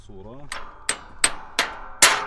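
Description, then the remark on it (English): Five loud hammer strikes ring out at a steady, slightly uneven pace, each clang leaving a short ring. A Palestinian olive farmer, on a break from plowing, is hammering a busted metal tractor part back into place. A brief voice is heard before the first blow. “takes a break from plowing to hammer a busted tractor part back into place.”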